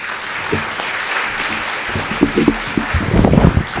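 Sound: audience applause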